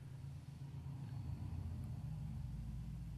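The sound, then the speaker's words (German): A car engine rumbles steadily as a customer arrives by car, a low, continuous hum that holds at a constant level throughout without any talking. “und ich musste jetzt komplett unterbrechen, da kommt gerade ein Kunde. Ah, okay. Du wirst jetzt auch das Auto sehen”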